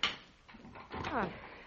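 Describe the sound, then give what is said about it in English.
A back door with a stuck lock opening: a sharp clack at the start, some soft rattling, then a brief squeaky creak that slides downward in pitch, all over about two seconds. “I forgot the lock stuck in the back door.”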